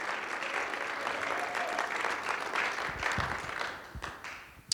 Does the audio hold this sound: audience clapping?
yes